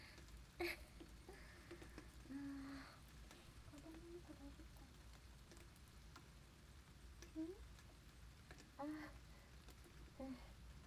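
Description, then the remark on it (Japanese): Steady rain that began suddenly patters softly and continuously, an even hiss with faint ticking drops, while a quiet voice makes brief murmurs now and then over it. “急に雨降ってきちゃったからびっくりしたよね。”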